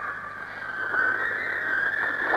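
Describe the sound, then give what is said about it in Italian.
A dense wash of many whistles rising from a large protest march crowd in Milan, blended into a steady shrill tone that swells slightly as the march moves slowly on, heard from amid the gathering with no clear speech. “Si è cominciato a fischiare da tutto il corteo, morti di Reggio Emilia.”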